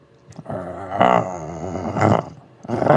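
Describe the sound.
A person growls like a dog in a voiced, rumbling, drawn-out snarl lasting a few seconds, with rough bursts that rise and fall.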